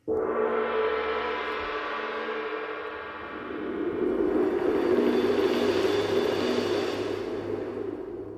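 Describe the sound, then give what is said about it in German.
A gong strikes and rings out with a shimmering, sustained hum, then a large cymbal roll swells into a loud, hissing wash that holds and slowly fades. It is the opening of a jazz album. No voices. “Das ist mal ein Anfang mit Gong und großem Beckenwirbel.”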